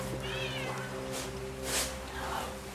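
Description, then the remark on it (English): A short-haired black cat meows as it rubs against a man's legs, a drawn-out wavering cry followed later by a shorter one, over a steady low electrical hum with a couple of brief rustling bursts. “stoops as the cat rubs against his legs.”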